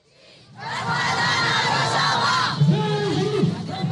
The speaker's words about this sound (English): In a Syrian village Tuesday, a mostly Kurdish crowd protested against the U.S. troops pulling out from positions along the border with Turkey.